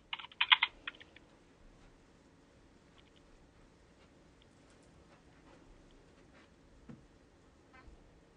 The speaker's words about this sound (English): I'm just typing this up now, won't be a moment.